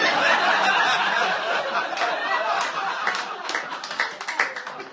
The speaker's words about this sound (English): Our first round of applause for a joke that is not going to work 5 miles from here.